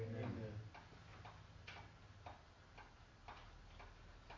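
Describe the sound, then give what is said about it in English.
A clock ticks steadily, roughly two even ticks per second, soft, over a faint low hum with a brief murmur at the very start. “The reason I chose that few moments of silence, every tick of the clock, there's a new child being born somewhere around the world who have not heard the message of Jesus, who don't know who Jesus is.”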